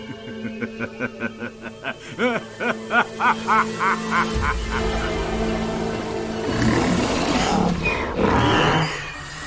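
A small bird calls in a quick, steady run of repeated nasal, quacking notes, fairly loud, before the calls give way to a low rumble and rushing noise.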